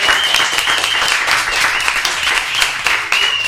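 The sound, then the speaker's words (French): A studio audience at the Radio Inside studios applauds steadily and loudly for several seconds, a dense wash of many hands clapping at once, with a high whistle or cheer rising above it now and then. “Allez, on applaudit, voilà.”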